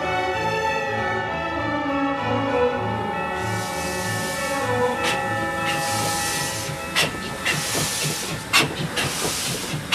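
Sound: steam train running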